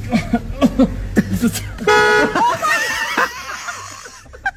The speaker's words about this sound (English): That was Jordan's baby bump. Yeah, hitting the horn in the car.